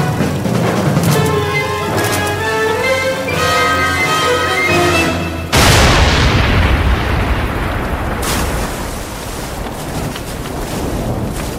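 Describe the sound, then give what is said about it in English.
A sudden, heavy explosion of a bomb on a boat cuts off tense orchestral music, followed by a long, rumbling roar of debris and fire from the burning ship that slowly fades, with a crackling wash lingering afterward. “There's a bomb in the boat!”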